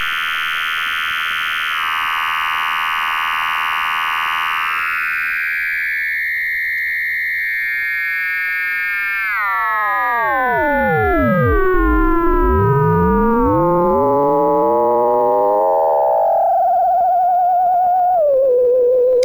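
Harsh synthesized square-wave buzzes drone steadily, then break into swooping pitch glides that rise and dive before settling on a single sustained buzzing tone, with no voices.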